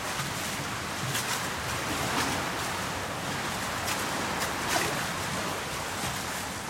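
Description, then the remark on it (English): Waves surge into a big hollow space beneath a concrete harbour quay built on rusty concrete pillars: a steady rushing wash of water broken by a few brief, louder splashing surges, with no voices. “I'm just walking over to stick my head under the harbour so you can hear it too.”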